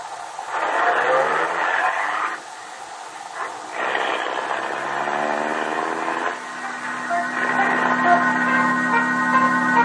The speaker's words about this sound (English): Car drives off, we wonder what this conversation means.